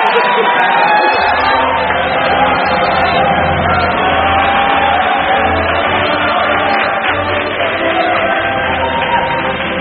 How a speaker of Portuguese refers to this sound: Puta merda, aplausos.